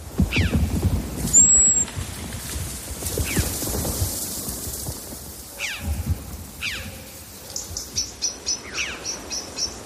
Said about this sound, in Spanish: Sobre todo se escuchan pájaros. Se escuchan unas, al fondo, es una especie como de chá, un latigazo, ¿no? Que son las chovas, unos corvos. Se escucha un mirlo asustado, algunos pájaros cercanos. Y sobre todo se escucha la caída de la nieve